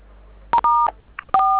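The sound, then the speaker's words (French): Two loud telephone keypad (DTMF) tones beep in quick succession, each a steady dual-pitched electronic beep of about a quarter second, separated by a brief pause, heard over a phone line as someone presses keys on the phone being used for the call, with no talking. “ça peut pas marcher car là, quand vous manipulez le téléphone avec lequel nous communiquons, ça va me fatiguer au niveau de l'écoute.”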